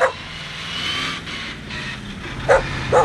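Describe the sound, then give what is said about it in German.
A large shaggy dog barks a few times, one bark at the start and two quick ones near the end, guarding a farmyard in front of a roughly 200-year-old house at the end of a sandy country road near the Oder ferry at Güstebieser Lose. Faint vehicle rumble fills the background in between. “Ein großer, zottliger Hund wacht vor dem etwa 200 Jahre alten Wohnhaus.”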